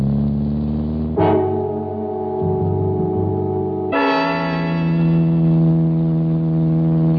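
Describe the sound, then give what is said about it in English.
A loud car engine roars steadily as the car, not a racing model but able to do 170, is driven too fast on a road, its pitch stepping up twice as it shifts gears, with no voices and a slightly hollow, old-recording tone. “Too fast. Slow down. I've handled cars like this at 170.”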